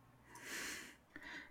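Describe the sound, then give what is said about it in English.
A dramatic gasp: a loud, airy intake of breath that swells and fades over about half a second, followed by a shorter breathy burst, with no speech. “Gasp.”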